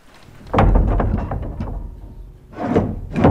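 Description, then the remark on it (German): A heavy chapel door, at a small forest chapel in a national park, swings open with a deep, rumbling scrape lasting about two seconds, followed by two more creaking, grinding bursts, fairly loud with no voices. “So, jetzt gehen wir in die Kapelle hinein. Wir öffnen die Tür.”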